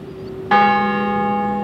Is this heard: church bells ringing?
yes